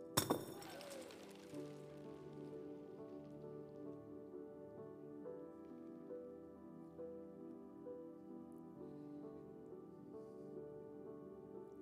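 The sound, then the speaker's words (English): A sudden loud crash of a glass jar breaking, then many small hard Skittles candies pattering and skittering across the floor, with a faint lingering ring as things settle. “Not only have the Skittles gone everywhere, but I got broken glass around here now.”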